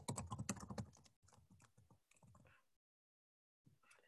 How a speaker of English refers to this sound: And send it out in just 1 second. I'm just typing the names into you.